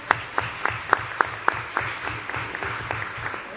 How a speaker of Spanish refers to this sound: Póngate de pie, de pie. Y un aplauso.